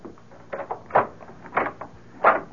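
A locked door is unlocked and opened: a short series of four or five clicks and clunks of the latch and handle, spaced unevenly, with no talking.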